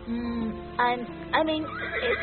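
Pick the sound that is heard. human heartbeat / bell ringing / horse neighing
horse neighing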